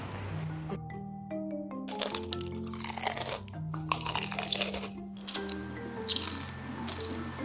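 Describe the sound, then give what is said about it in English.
Loud crunching of Korean fried chicken being bitten and chewed close to the microphone for a mukbang vlog, with repeated crackly bites in an uneven rhythm and no talking. “So when we're eating a chicken, right, we're just going closer to the mic and then we'll crunch.”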